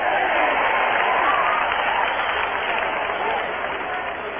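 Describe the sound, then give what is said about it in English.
A crowd-cheering sound effect: a crowd cheers and applauds in a dense, steady roar of clapping and shouting voices that holds loud for several seconds and eases slightly toward the end. “There's really only one thing I like more, and that's when they cheer.”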